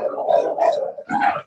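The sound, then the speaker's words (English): Two puppies scuffle, a continuous stretch of snarling growls rising into sharper yappy bursts, loud and rough for about a second and a half with no voices. “Oh boy, doggy fight.”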